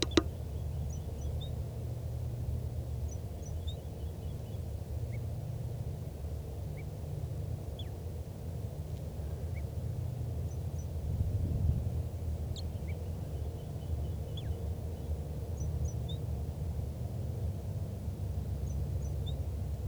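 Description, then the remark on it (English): A wild bird sings softly, giving faint, brief high chirps and short twittering phrases at irregular intervals over a steady low rumble of background noise. “Recording again that wild bird in soft song.”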